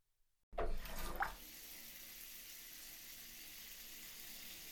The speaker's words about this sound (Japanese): さっさとシャワー浴びるよ。